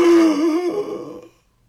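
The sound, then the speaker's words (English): A single loud gasp from a voice imitating a monster gasping as its arm is seized in a fighter's grip, strained and throaty, stretching into a groaning tone before fading out over about a second. “pitted weight into the monster's arm by holding thus, and Grendel gasped”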